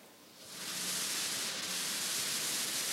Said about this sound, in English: A more complex sound still is white noise.